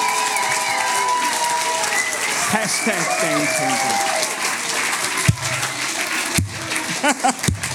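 A crowd in a youth church claps and cheers steadily for several seconds, dense and fairly loud, with a few sharper whoops and claps standing out toward the end as the applause thins.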